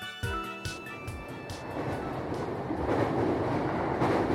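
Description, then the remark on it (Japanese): Inside a moving train: a steady low rumble of wheels and car noise builds, with rhythmic clacks over the track joints and a faint whining motor tone at the start. “電車内でサブコはスマホからマイクロソフトのクラウドサービスオフィス365にアクセスしてメールをチェック。”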